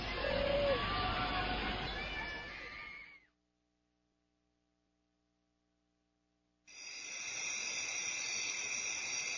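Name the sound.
pigeons cooing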